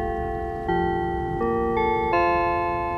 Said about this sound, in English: It's the school bell! Oh, it's 4 o'clock! Time to go home!